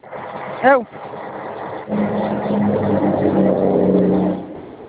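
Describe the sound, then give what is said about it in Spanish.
A car is started and its engine runs with a steady, rumbling drone that swells slightly as it revs, holding for a few seconds before easing off; a brief sharp sound comes just before it. “Me va a dejar, aquí ya él ya arrancó su carro y el mío no me lo han arrancado.”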